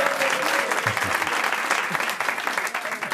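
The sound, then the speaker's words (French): A crowd claps steadily and densely for about three seconds after Chantal Latsou identifies the mystery guest. It is a loud, even wash of applause with no pauses and no voices standing out. “Elle fait vraiment applaudir pour un rien.”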